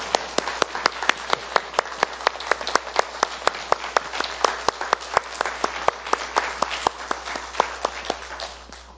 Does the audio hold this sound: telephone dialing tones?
no